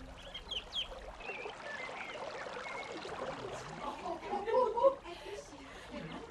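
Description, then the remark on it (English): River water trickles and flows steadily outside the gates of Philippi in Macedonia, a soft continuous babble, with faint murmuring voices and a brief bird-like chirp rising over it near the end. “So on the Sabbath, everyone meets here, down by the river, for prayer, the ritual ablutions.”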